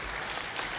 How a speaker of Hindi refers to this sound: भाई साहब के लिए जोरदार ताली बजाएंगे।